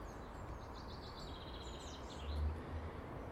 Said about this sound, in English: That little bird, way up to my left, near the top of the conifer, which was singing its heart out.